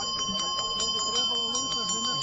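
Small bells ring continuously at a village fair, with quick, repeated strikes and a sustained metallic tone, while a murmur of voices and crowd noise carries underneath.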